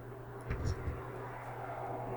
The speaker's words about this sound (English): Do we want to wait for the plane to go by? Yeah. Too close to the airport.